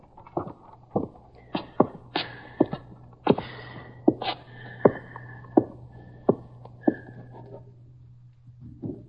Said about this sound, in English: Yeah, keep going so he can hear your steps going down.